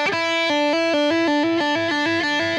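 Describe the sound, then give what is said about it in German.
Electric guitar playing a quick run of hammer-on notes after a single pick, the pitch stepping up and down in a steady rhythm with a sustained, slightly distorted tone and no talking. “Das genau, heißt, ich habe jetzt einmal angeschlagen, aber die Töne danach, die waren einfach nur den Finger einmal raufbauen.”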